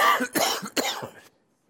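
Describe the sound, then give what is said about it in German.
A loud fit of several rapid coughs in quick succession, harsh and raspy, trailing off into silence after about a second and a quarter. “Da komme ich einen Hustenanfall über.”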